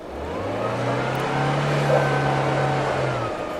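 A car drives steadily through deep snow into the mountains as snowfall grows heavier, its engine holding a low, continuous drone while a dense, rushing hiss of tires pushing snow aside fills the background. It is fairly loud, with no voices.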